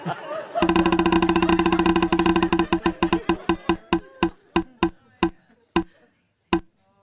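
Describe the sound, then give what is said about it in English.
A spinning wheel ticks rapidly against its pointer, the sharp clicks steadily slowing and spreading apart until a last few lone ticks as it comes to rest on HBO Max's Meltdown, with faint crowd murmur underneath. “Let's spin it one more time.”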